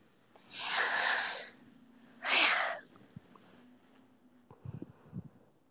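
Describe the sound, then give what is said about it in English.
Two loud, breathy sniffs, like a stuffy nose drawing air, followed by a few soft, faltering catches of breath as if a sneeze is building but never comes; a person sniffling in the morning. “Sniffling isn't cute, I don't know.”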